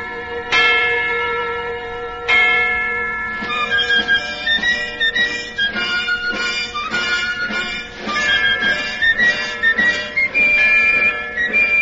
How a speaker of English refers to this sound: This old bell had rung out the sounds of many victories, of many wars. It had once called people to their place of worship.